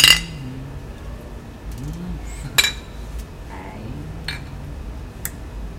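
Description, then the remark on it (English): Glasses clink together in a toast, three or four bright, sharp taps spaced a couple of seconds apart, over a low murmur of voices in the background. “Cheers to burrs.”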